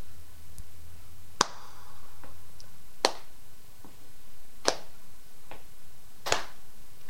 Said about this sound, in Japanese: 最後に歌を歌っていいでしょうか これは手拍子お願いします。まだリズムがあります。